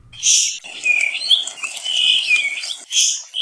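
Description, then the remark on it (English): A puaiohi, a small thrush found only on Kauai, Hawaii, sings a high, continuous warbling song of sliding whistled notes, opening and closing with harsher, buzzy bursts. The song is fairly loud, with no talking. “University of Hawaii at Hilo Professor Patrick Hart has the song of Kauai's last surviving thrush species.”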